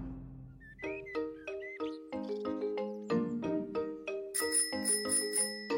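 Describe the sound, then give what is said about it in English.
Bicycle bells ring repeatedly in quick, bright dings as Peppa and George ride their bicycles on a sunny day in the Peppa Pig cartoon, over a cheerful musical backing, the rings stacking into a busy, jingling pattern that grows higher and denser toward the end. “It is a lovely sunny day, and Peppa and George are riding their bicycles.”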